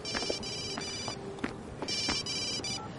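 A telephone rings in two long electronic bursts with a pause between, its bright trilling tone clear against a faint background hiss. No one speaks.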